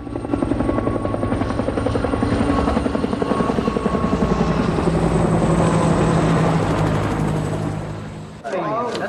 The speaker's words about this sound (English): The chopper carrying Scribe flies into the distance.